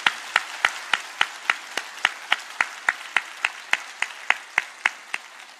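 A church audience at an early-morning service on a rainy day claps in steady unison as an applause of glory to God, sharp even beats roughly four per second for several seconds, fairly loud with no voices over it.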